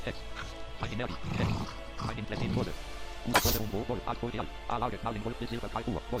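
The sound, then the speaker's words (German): Wolves howl in long, wavering, drawn-out cries that rise and fall over several seconds, fairly loud, mixed with a voice and a brief bright crash partway through. “Oh, dieses Geheule, das ist schön gruselig.”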